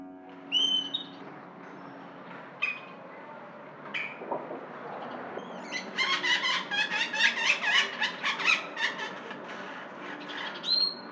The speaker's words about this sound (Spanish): Zanate mexicano, de nombre científico Quiscalus mexicanus, del orden Passeriforme y de la familia Icteridae. Es un ave grande de 43 centímetros de largo, con una cola muy larga, ojos amarillos y pico largo, negro y robusto